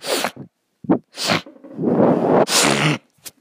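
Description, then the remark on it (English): A person with a cold sneezes several times in quick succession, harsh bursts of breath with strained, voiced sounds in between, then a final loud sneeze followed by a short faint sniff. “Sorry, I have a cold.”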